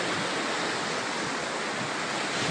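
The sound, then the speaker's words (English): Gulf water washes steadily along a beach shoreline, a continuous rush and hiss with no distinct breaks between waves and no voices; the water is bubbling. “I'm the only person here in the water line. As you see the water bubbling, it's probably the reason.”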